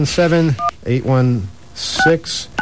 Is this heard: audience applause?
no